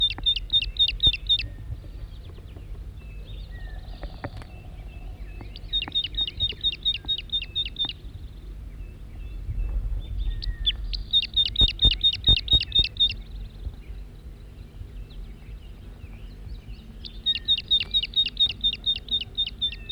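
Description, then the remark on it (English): A wild male bird calls at close range in four loud bursts of rapid, high-pitched repeated notes, spaced a few seconds apart over a steady low rumble. “Wild bird, stop. Circling the wild male again from close range.”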